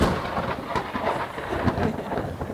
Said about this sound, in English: That was a delayed thunderclap, but you know, you can't predict that sort of thing.